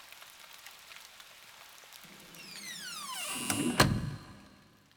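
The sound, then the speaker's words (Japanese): Steady rain patters softly late at night at an old house in a forest, while a door slides open with a rising scrape and lands with a solid thud; no one speaks. “雨の中、お体冷えたことでしょう。”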